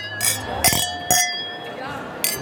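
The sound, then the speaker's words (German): Glass clinking rings out in four bright, sharp strikes spaced roughly half a second apart, each leaving a clear sustained ring that hangs between hits, distinct. “Ich kurz mir das Klingeln von dem Glas aufnehmen.”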